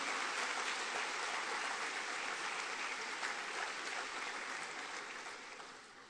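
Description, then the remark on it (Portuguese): An audience applauds the Lord in a dense, steady wash of many hands clapping with no voices, holding strong for several seconds before tapering off slightly at the end. “Eu quero aplaudir o Senhor.”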